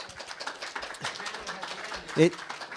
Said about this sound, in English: Big applause for the UFO panel.